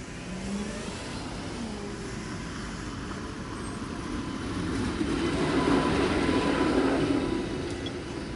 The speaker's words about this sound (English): If I had to guess, that sounds like a streetcar.